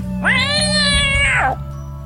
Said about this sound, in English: Nope, the cat's alive. The cat is alive and not happy.